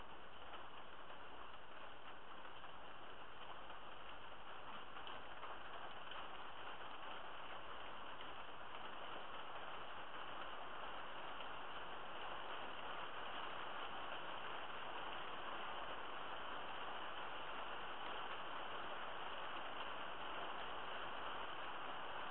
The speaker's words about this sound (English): Here comes the big drops of rain.